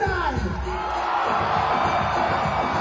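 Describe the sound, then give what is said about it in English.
A large audience screams and cheers for peace in the Middle East at a performer's call, a dense continuous roar of voices with whoops and yells rising above it, loud and sustained for the whole moment. “So, I want to hear you scream for peace in the Middle East.”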